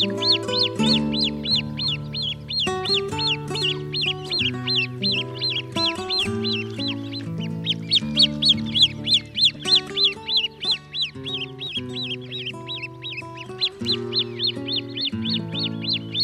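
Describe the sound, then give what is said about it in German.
A long, continuous run of loud, harsh, rhythmic great crested grebe calls, rapid repeated notes rising and falling, over a droning low background. No one speaks. “Das war der Haubentaucher.”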